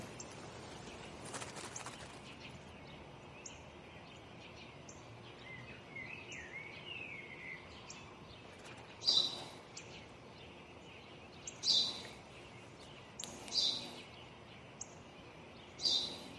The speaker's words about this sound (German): Was ist das? Das habe ich dir doch gerade gesagt, Vater. Es ist ein Spatz.